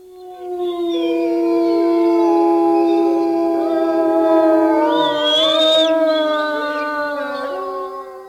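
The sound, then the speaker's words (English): Several gray wolves howl together in a sustained, overlapping chorus, long rising and falling tones layered over one another for about eight seconds, loud, with no talking. “Gray wolves are amazing creatures.”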